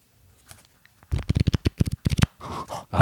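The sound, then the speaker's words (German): Brisk riffle of stiff, thick cardboard trading cards: a quick run of dense slapping flicks lasting about a second, then a softer papery shuffle as the deck settles, after a faint rustle. “Da klingt aber dann dick. Also die sind ein bisschen pappiger. Also haben schon dickes Papier, oder?”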